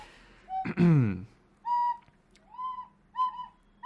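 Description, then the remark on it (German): Someone whistles in three short, wavering notes with brief pauses between them, after a loud, sliding vocal sound at the start. “Hör bitte auf zu pfeifen.”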